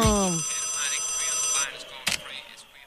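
A telephone rings loudly and steadily for about a second and a half with a bright, buzzing tone, then cuts off, followed by a sharp click, as if the handset is picked up.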